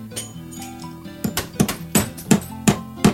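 Steady hammer blows, about six sharp strikes in an even rhythm after softer taps, each with a bright clinking, ringing edge of glass breaking as he hammers; a construction sound effect played from a soundboard.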